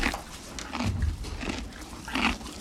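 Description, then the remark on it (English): A horse named Shabrang chews a carrot, with several loud, crunchy bites spaced irregularly over a few seconds and no voices. “What a beautiful, calm horse. How funny he eats the carrots.”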